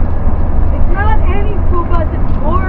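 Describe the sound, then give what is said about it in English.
A steady, loud low rumble of a van in motion, heard from inside the cabin, with people's voices chattering over the constant road and engine drone. “The color of our bus. Oh. What bus? This bus. Bus. Oh. Well, it's like a van.”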